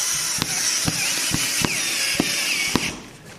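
An electric drill bores into a wall, a steady high grinding whir punctuated by sharp, evenly spaced knocks about twice a second, with no voices, before the noise tapers off at the end.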